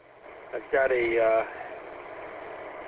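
A car engine idles in a driveway after the car has been backed in, with a steady, low, even hum throughout, and a brief vocal sound rises over it for a moment near the middle.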